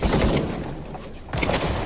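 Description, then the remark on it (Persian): Loud, dense bursts of machine-gun fire, like several guns shooting at once on a range, a sustained crackling volley that briefly thins before another heavy burst kicks in. “دکتیارف کدومشونه؟ برادر، استاد که برای تیراندازی نمیاد.”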